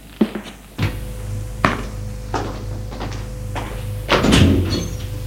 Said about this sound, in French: Elle monte au premier étage, suit un couloir. Elle va ouvrir une porte.